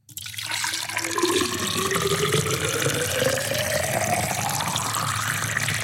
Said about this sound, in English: Right. Commence the pour